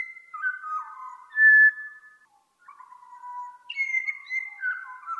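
A pied butcherbird in Australia sings clear, fluting whistled phrases, sliding between pitches in two bursts separated by a brief pause, fairly loud with no one speaking.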